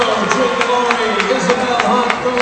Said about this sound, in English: Listen to the crowd. First time ever hosting a playoff game, and it's going to be a win.